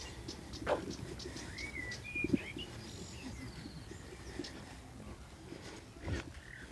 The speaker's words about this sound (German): Sollen wir mal ganz kurz die Vögel, einfach nur den Vögeln zuhören? Ja, machen wir. Einfach mal dieses Entschleunigen.